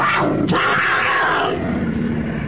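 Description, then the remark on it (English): A puma in an elevator, in a Geico car insurance advert, lets out a loud, rough roar that rumbles on for a couple of seconds, gravelly and sustained before easing slightly toward the end, with no voices over it. “That we're in an elevator with a puma?”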